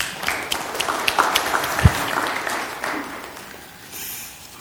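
A crowd applauds with dense, steady clapping from many hands, holding fairly level for several seconds before thinning out toward the end. No one speaks over it.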